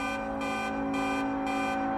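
Noisy jammed city traffic outside Union Station with the stoplights out: a steady, blaring horn-like tone over a low engine rumble, with a pulsing alarm-like edge repeating about twice a second, loud and continuous, with no talking.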